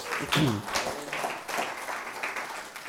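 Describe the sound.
An audience breaks into steady applause for the Lord, a dense wash of clapping with a brief voice calling out near the start, sustained for a few seconds at moderate volume.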